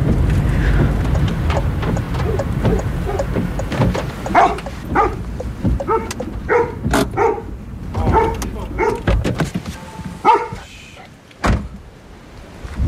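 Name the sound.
dog barking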